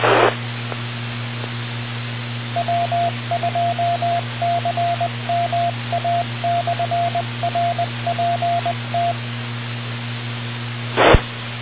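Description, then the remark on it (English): A radio repeater's identification plays as a steady, mid-pitched Morse tone keyed in dots and dashes over a humming radio channel. Short bursts of static open and close it. “Brad has put the repeater ID itself there.”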